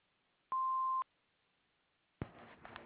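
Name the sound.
answering machine beep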